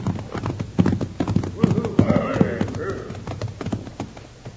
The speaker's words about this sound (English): Hey, here come some riders now. And I ain't seen that pinto horse before.